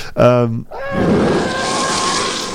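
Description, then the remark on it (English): A monster-like creature sound effect made by combining different animal noises, such as a lion or tiger screaming with a seal barking: a short, tonal growl with a harsh edge, then a loud, raspy, sustained roar that rumbles on steadily until the end. “Apparently, a lot of these sound effects were actually made by combining different animal noises.”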